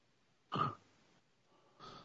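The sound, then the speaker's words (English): Breathy puffs into a microphone: a louder burst of air early on, a quiet stretch, then a softer exhale at the end, with no talking. “I hear you, but I can hear you breathing. Your microphone, maybe.”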